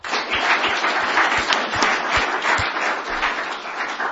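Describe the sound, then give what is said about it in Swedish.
Sustained audience applause for the speakers at the end of a session, a dense wash of many hands clapping steadily and fairly loudly for a few seconds, with no voices over it. “En stor applåd till dem.”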